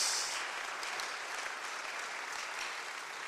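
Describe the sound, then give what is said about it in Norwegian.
An audience claps steadily for what a speaker has just said, a dense wash of many hands producing continuous, even applause that holds its loudness throughout with no voices breaking through. “Så vi gir enda en klapp til det som blitt sagt.”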